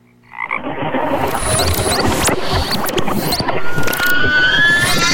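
Frogs croak in a dense, continuous chorus that kicks in after a brief silent moment and stays loud throughout, with raspy, overlapping calls and no one speaking.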